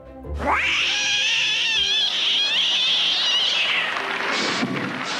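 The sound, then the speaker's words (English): Voice actor Frank Welker imitates a cat on a 1970s variety show, producing a long, loud, wavering yowl that rises sharply and holds for several seconds before breaking into a couple of short cries, with no other talk. “Here's Frank making cat noises on a variety show in the 1970s.”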